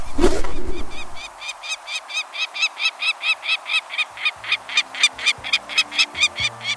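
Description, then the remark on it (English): A peregrine falcon's harsh, rapid cacking: a long, steady series of loud, grating notes repeated several times a second, after a brief rustle at the start. “The mid-sized peregrine falcon nests in some locales across the country, but its numbers are greatest in winter, especially near the coasts.”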